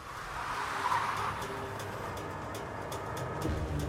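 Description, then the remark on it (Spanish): A car swerves to the side of the road and brakes hard, with a brief tire squeal early on, over a steady, loud rumble of road and engine noise that carries on for a few seconds. No one speaks. “La persona que conducía el auto se desvió a un lado de la carretera y frenó de golpe.”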